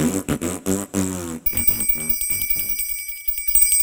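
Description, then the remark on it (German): After a brief melodic passage, a small bell starts ringing with a bright, shimmering tone that lingers steadily to the end, fairly loud. “Oh weh, die Glockenblume bimmelt. Dann bin ich ja schon wieder dran.”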